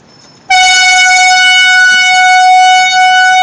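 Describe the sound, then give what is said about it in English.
An air horn, sounded by activists in the lobby of Nomura's offices, blares in one loud, continuous, steady blast, starting abruptly after a brief quiet moment and holding its harsh, brassy tone without a break. “We only stayed there for about 20-25 minutes and then moved on to Nomura, where activists did enter the lobby and with a air horn.”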